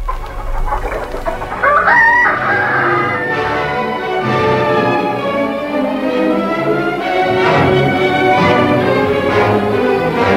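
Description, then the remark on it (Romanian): A busy flock of chickens clucks steadily, with a rooster crowing loudly over them; the farmyard chatter stays dense throughout, and no one speaks. “Anghiul așteaptă după regulă să omorâm noi înșine găinile cu pietre pentru supa noastră”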